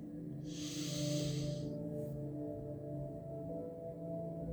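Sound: slow deep inhale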